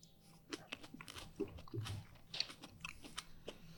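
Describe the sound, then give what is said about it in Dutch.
Wet chewing after a bite into a small, juicy datterino tomato, with soft squelching and mouth noises repeating irregularly for a few seconds, no talking. “En nu dat kleintje. De datterino gaan we nu doen.”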